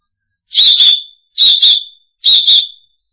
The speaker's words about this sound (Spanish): Y si no tiene silbato, mira, se silba así.